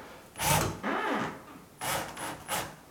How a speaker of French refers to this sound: Et maintenant, voilà. Je viens d'enfoncer ma première vis inférieure à fond. Du coup, elle est rentrée dans la porte à sa place.